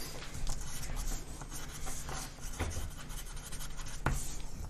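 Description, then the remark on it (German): Continuous scratching of a pen moving across paper as someone writes something down, with quick irregular strokes and a few sharper taps, steady and fairly quiet with no talking. “Schreibst du es gerade auf”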